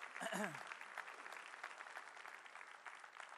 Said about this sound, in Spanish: Si Dios le habló, de un aplauso al Señor, que se lo merece. Amén.